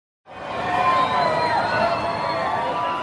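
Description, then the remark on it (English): A loud, dense crowd at the Rio Carnival parade in Rio de Janeiro shouting and cheering, many overlapping voices forming a steady roar that starts abruptly and holds at a constant level throughout. “People are shouting at us.”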